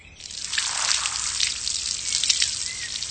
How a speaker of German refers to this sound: Warum spritzt du die Knochen denn mit dem Gartenschlauch ab? Muss die reinigen.